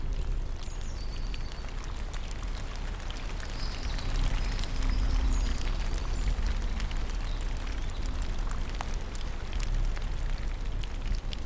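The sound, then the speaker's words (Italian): Steady light rain patters throughout, heard from a wooden hide beside ponds and reed beds, a constant soft hiss dotted with individual drop ticks, even in level, with a faint bird whistle briefly in the background near the start. “Al capanno si sente solo il rumore della pioggia leggera.”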